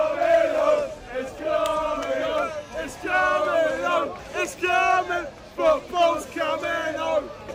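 A big crowd of British football fans of England sings together after England reach the Euro final with a 91st-minute winning goal, loud sustained sung phrases rising and falling in a steady chant-like rhythm with short breaths between lines.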